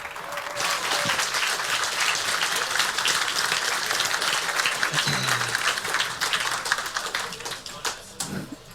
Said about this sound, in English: please, a very warm round of applause.